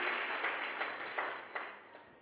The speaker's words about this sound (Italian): Facciamo un applauso al Signore, battete forte le mani, svegliamoci!